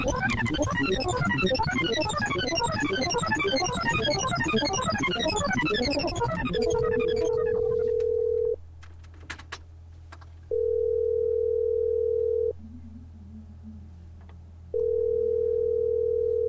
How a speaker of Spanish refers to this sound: Ahí está sonando este teléfono del tiempo.